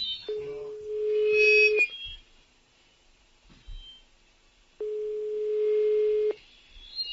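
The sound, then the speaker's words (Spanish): Two long, steady ringback tones from an outgoing phone call, each about a second and a half, separated by a pause of several seconds. The tones are clear, with faint line noise and no talking. “Enseguida escucharás tonos, Pepe, que estamos llamando.”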